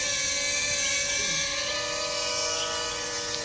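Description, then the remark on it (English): A drone's rotors whine steadily as it flies and lands, a loud, high-pitched buzzing hum with layered tones that holds constant throughout, with no voices. “I'm going to turn off my drone, holding the button.”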